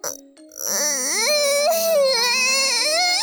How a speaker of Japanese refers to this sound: ほら、やっぱ泣いてんじゃん。 なんか嬉しいし、安心したし、よくわかんないけど、涙が出てくるの。